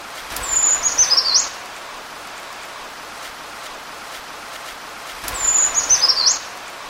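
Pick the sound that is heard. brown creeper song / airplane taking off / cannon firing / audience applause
brown creeper song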